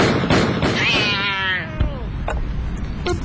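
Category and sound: animal, cat meowing and yowling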